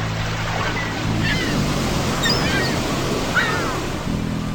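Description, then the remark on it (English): Sea waves wash steadily against the shore at Brighton in June 2006, a constant broad roar, with a low droning hum underneath and a few faint, high bird calls drifting in, as a woman sets off for a morning swim. “setting off for a morning swim”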